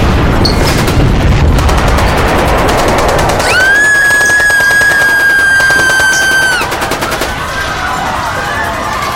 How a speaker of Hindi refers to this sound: और तब एक धमाके के बाद AK-47 के राउंड्स गूंजे।